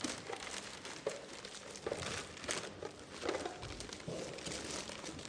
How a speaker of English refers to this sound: Oh, very nicely opening this. I think. Are you not saving this wrapping paper for next year, are you? No. Oh, keep going then. Keep going now. Take it off. That's it. Take it all off.